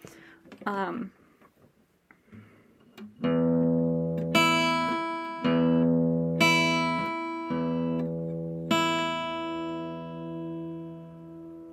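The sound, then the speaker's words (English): After a brief bit of voice, guitar strings are plucked again and again: a deep low E on the sixth string and a brighter high E on the first string, each note ringing out loud and sustained before the next pluck. “And this is the first string of a guitar, and that note is also an E, but as you can tell, it's a higher E.”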